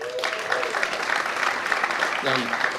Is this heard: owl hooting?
no